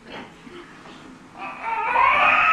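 A baby cries, starting with soft fussing whimpers and then swelling into a loud, sustained wail that rises in pitch toward the end.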